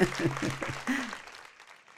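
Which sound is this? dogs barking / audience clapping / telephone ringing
audience clapping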